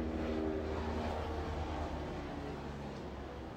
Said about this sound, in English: There's a helicopter.